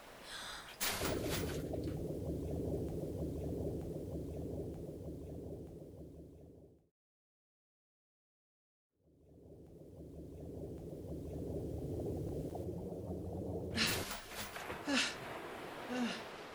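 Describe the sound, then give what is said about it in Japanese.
A swimmer dives into the sea three times. Each plunge opens with a sharp splash, followed by muffled underwater bubbling and churning. A brief silence breaks it, then the bubbling returns before another loud splash near the end. “3回飛び込んだね。”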